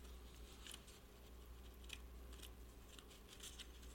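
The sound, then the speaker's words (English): Quiet crinkling and peeling as sticky paper pages are pulled apart to turn a page, a handful of short crisp rustles spread over a few seconds against a low steady hum, with no one talking. “Boy, this paper is sticky. Cannot get it apart.”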